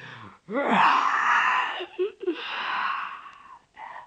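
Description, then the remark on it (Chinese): A voice imitates the long, drawn-out yawn of a puppet-regime policeman entering a small snack shop, breathy and moaning, rising then tapering over about three seconds with a brief catch midway, fairly loud, with no talking. “没说话，先打了个哈欠。”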